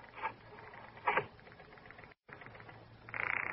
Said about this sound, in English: Here, I'll dial it.